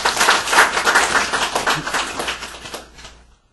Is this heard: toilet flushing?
no